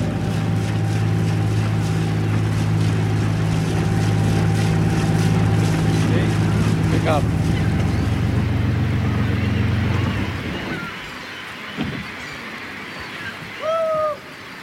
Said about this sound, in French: on a arrêté le Doris, on a coupé le moteur, on est au pied du Grand Colombier.